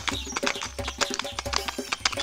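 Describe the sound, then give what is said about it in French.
A fast horse's hooves pound in a quick, steady galloping rhythm, fairly loud, with a low rumbling background and no voices. “Quand il entendit le cheval au galop”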